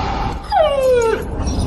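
A dog gives a single drawn-out whimper, a thin whine that slides downward in pitch over about half a second, fairly close, over a steady background hiss.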